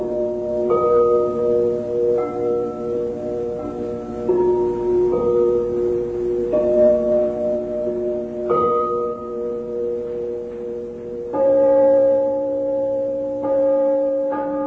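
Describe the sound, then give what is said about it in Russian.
Porcelain bells made by craftsmen in the town of Meissen, East Germany, play a slow tune, each clear, ringing note held and overlapping the next as the pitch steps up and down every second or so, steady in loudness with no voices. “Но эти колокола отлиты не из металла.”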